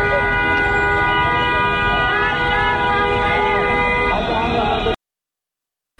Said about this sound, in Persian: در مشهد هم ویدیویی منتشر شده که مردم توی خودروهاشون، توی ماشینهاشون دارن به صورت هماهنگ بوق اعتراضی میزنن.